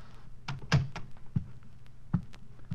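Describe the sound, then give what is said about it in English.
An unlocked apartment door is pushed open with a dull thunk, followed by a few slow, heavy footsteps as someone walks into the apartment, spaced unevenly amid otherwise quiet. “Then I tried the door. It It was open, and I walked in.”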